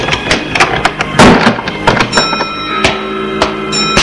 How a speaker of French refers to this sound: Ils entrent. Elle ferme la porte.